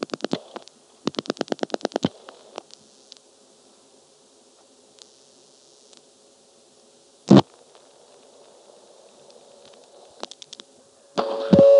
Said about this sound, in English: Anyway, here's dialing 9 plus a 4 plus a 9, then hanging up briefly, and when I pick up the phone, you can hear a little burst of a very high frequency ring.